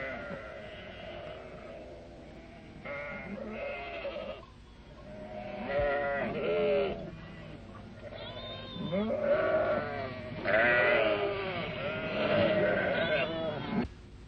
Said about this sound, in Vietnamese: Một trong những con dê đó